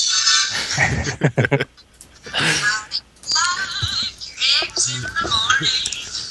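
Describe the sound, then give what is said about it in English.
An unusual cell phone ringtone plays loudly: bursts of squeaky, warbling high-pitched cries, almost like an animal whinnying, repeating in uneven phrases with brief gaps between them. “So, that's one interesting cell phone ring.”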